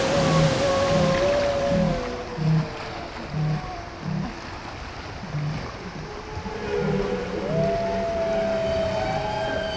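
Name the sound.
whale vocalization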